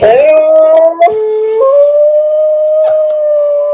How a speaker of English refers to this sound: We do FaceTime every Thursday night so the dogs can see each other. The whining, the howling.